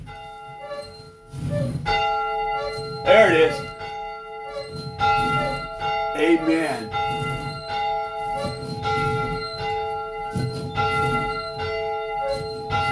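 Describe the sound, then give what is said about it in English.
A church bell rings steadily over and over to begin a Sunday service, each resonant strike blending into a lingering hum of overtones, with a voice briefly speaking beneath the tolling. “I am in the church right now, and we're going to begin this little Sunday Sabbath service the way we always begin our Sunday services, with the ringing of the bell.”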